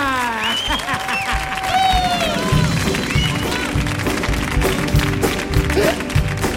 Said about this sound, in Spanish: ¡Fuerte el aplauso para Luke y Luis contra los hermanos!